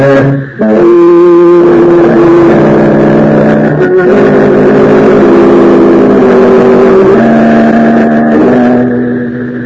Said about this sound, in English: Go on your right and get the car started.